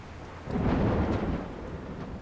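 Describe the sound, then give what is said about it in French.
A low, rolling rumble of thunder swells up over steady heavy rain, then settles into a sustained stormy roar with rain hissing throughout, during an early-autumn thunderstorm in Paris in September 1931. No voices. “Entre Sorbonne et Panthéon, l'automne précoce avait aboli ses couleurs chaudes pour les gris grincheux des orages violents et capricieux.”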